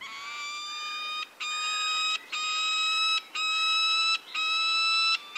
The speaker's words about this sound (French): Ah oui, c'est des cris assez aigres. Ça, c'est typique des faucons, des cris assez aigus et aigres. Voilà, donc ces oiseaux sont installés. Cet enregistrement a été réalisé en Suède.